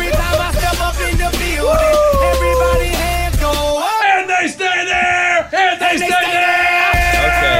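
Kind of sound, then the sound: crowd, people yelling and whooping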